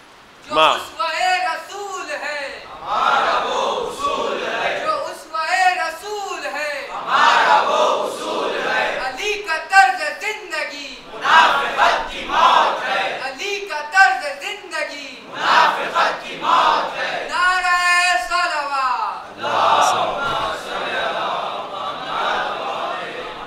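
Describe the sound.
A crowd chants two religious slogans about the example (seerah) of the Prophet in loud, rhythmic bursts, many voices rising and falling together in repeated call-like phrases that continue steadily with short gaps between them.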